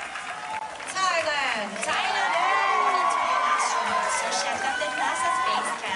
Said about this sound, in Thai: ครับเช่นเดียวกับกองเชียร์ชาวไทยจากทั่วสารทิศทั้งที่เดินทางจากรัฐอื่นๆในสหรัฐและเดินทางไกลจากเมืองไทยก็เดินทางมาร่วมส่งเสียงเชียร์ทุกครั้งที่ได้ยินการประกาศชื่อตัวแทนจากประเทศไทยเพื่อรวมใจเป็นหนึ่งลุ้นเชียร์ให้สาวไทยคว้ามงกุฎ Miss Universe ได้สำเร็จ